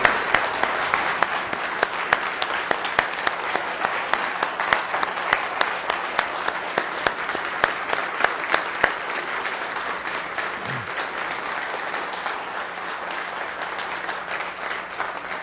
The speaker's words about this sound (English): Let's give this choir and all of these folks another big round of applause, shall we?